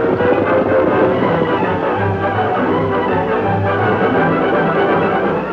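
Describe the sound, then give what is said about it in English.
A train rumbles steadily as it arrives in the town of Redford, with two short, low horn blasts sounding over the continuous mechanical roar and no voices. “The train had arrived bringing several wounded men.”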